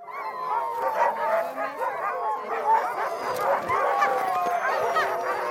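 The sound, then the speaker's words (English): A pack of sled dogs barks, yips and howls together in a loud, continuous chorus, overlapping voices rising and falling without any pause. “Dog sledding is booming.”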